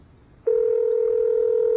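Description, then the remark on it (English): A telephone tone cuts in abruptly after a short quiet moment as a call is placed to someone at random, and holds as one loud, steady electronic hum to the end, with no talking. “So we're going to call someone at random.”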